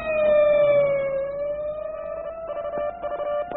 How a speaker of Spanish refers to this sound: Se transmitían órdenes terminantes de localizar el camión blindado. Los carros patrulla se lanzaban por toda la ciudad haciendo ulular sus sirenas.